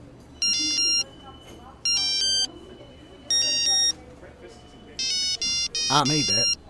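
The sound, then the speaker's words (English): A beepy, synthesized ringtone melody, made with the phone's ringtone composer, plays on a Pikachu mobile phone in four short repeated phrases, with faint voices murmuring underneath and a voice briefly overlapping the final phrase. “It's even got a ringtone composer. You want to see this? Watch this.”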